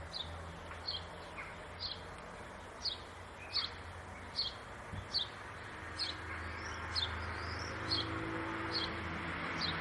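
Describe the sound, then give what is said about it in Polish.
Birds sing outdoors with a steady series of short, high chirps repeating at a regular rhythm, fairly faint against a constant low background hum, with no one talking. “Może mi ktoś powiedzieć i mnie oświecić, jakie to ptaki?”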